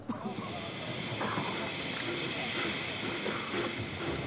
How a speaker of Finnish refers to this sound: Bobrikov ei kätellyt Somania, vaan meni ärähdellen vaunuun ja juna lähti Helsinkiin.